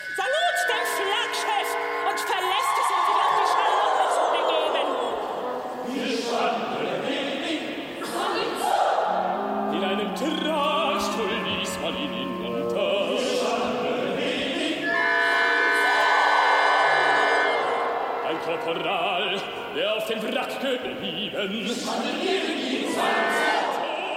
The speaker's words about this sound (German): So wird ein Ausschnitt aus der Ausschiffung im Fluss der Medusa von Hans-Werner Henze aus dem Hangar 1 im Tempelhof. Man hört schon, das sind größere Räume, die da bespielt werden.